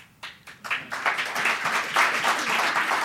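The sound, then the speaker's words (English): A few scattered claps quickly swell into steady applause from a crowd, dense and continuous after the first second, filling the rest of the short stretch without any talking. “I don't say that for your applause.”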